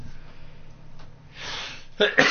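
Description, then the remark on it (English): A single sneeze bursts out, a breathy rush of noise followed by a couple of short sharp bursts, against a quiet background. “Sneeze on the truth. Sneeze quietly, on it.”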